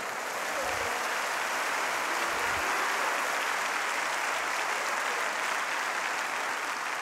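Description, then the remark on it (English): A large audience claps steadily and continuously for several seconds, applauding themselves, a dense, even wash of applause with no pauses and no speech over it. “Clap for yourself.”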